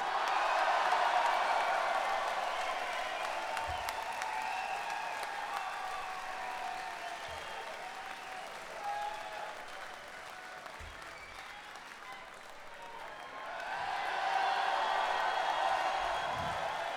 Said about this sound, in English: Don't cheer him yet, I haven't introduced him.